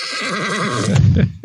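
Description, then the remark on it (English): A horse neighing sound effect on the radio show Wretched Radio: a loud whinny, its voice wavering in a quick vibrato before dropping into a rough, breathy snort at the end. “Are we going to beat the horse?”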